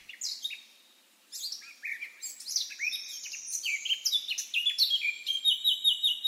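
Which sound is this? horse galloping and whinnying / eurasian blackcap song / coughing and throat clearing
eurasian blackcap song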